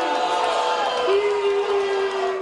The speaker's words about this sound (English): You're not going to allow what? They booed you down before you could finish that sentence.